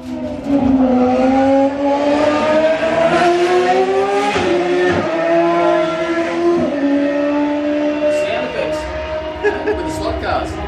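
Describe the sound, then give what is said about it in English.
A loud open-wheel race car engine roars with a strong, buzzing exhaust note as it goes past at a chicane, its pitch climbing and shifting as it sweeps past, with sharp mechanical pops over the steady drone. “Ten tracks of different cars, race cars going past.”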